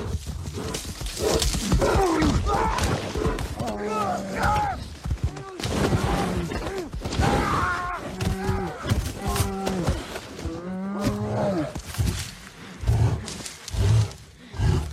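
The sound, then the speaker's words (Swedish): A bear in a film scene roars and growls ferociously while attacking a person, a loud barrage of snarls and bellows with rough struggling noises that continues almost without pause. “vi klämmer in scenen här lite fort, bara får vi höra hur det kan låta att bli attackerad av en björn.”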